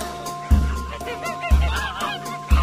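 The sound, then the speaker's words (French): Geese honk in a short, busy burst, their nasal calls layered over a steady tonal backdrop punctuated by three evenly spaced low thumps, about one second apart. “Mais les oies ne l'écoutent pas.”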